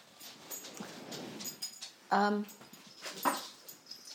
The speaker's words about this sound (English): Dog chasing cat, only half-heartedly.